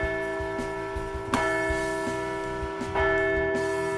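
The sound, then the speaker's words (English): A large bell rings repeatedly, rung to celebrate a Phillies series sweep, in a steady, clanging rhythm, its sustained tones layering into a loud, resonant wash with sharp strikes about every second and a half. “Ring the bell!”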